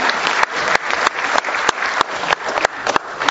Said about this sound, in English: Thank you. I think we should have an applause for our moderator here. Well done.